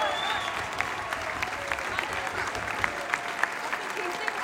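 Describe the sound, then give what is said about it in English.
A crowd cheers and applauds for Coley as the team lines up on the podium for medals, a steady, dense roar with sharp individual claps popping out above the wash of noise throughout. “Fantastic cheer for Coley.”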